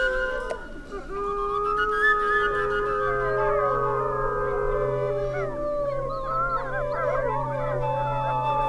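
Several wolves howl together in a sustained chorus, long rising and falling tones overlapping and wavering, steady and fairly loud throughout with a low hum beneath.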